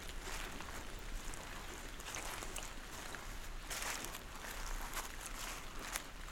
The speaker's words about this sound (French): Vous entendez, alors que la pluie a cessé, les gouttelettes d'eau qui dégoulinent le long des troncs et des branches de la hêtraie.